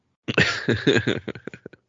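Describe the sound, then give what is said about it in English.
A close, loud coughing fit: several harsh bursts in quick succession, tapering into shorter, softer coughs before stopping. “Mine didn't work the last time I was coughing.”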